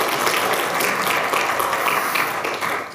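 A church audience claps their hands for a member who just achieved license to exhort certification, in steady, dense applause, a continuous crackling wash of many hands that holds at an even, fairly loud level for a few seconds before easing slightly at the end.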